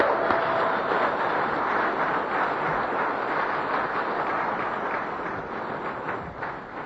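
An audience applauds a guest speaker steadily, a dense wash of many hands clapping that holds at an even level for several seconds before easing slightly toward the end.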